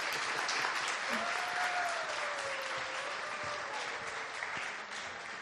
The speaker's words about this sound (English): Okay, round of applause for the towns here.